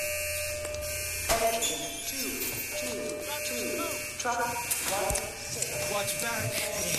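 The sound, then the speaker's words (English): A fire station alarm buzzer drones steadily and loudly for several seconds, a harsh continuous electronic tone with people talking underneath it, signalling a false alarm. “and then all of a sudden a false alarm comes in.”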